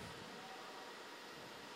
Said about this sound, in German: Es war ein zartes Rauschen, was aus dem Tälchen, aus den drei Bächen, die dort im Tälchen zusammenfließen, was dort so zu uns hochstieg. Beruhigend und belebend zugleich.